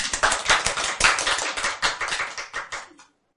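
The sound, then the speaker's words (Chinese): An audience claps for about three seconds, a dense patter of many hands with no voices, ending abruptly into silence. “你说对不对？拍手。”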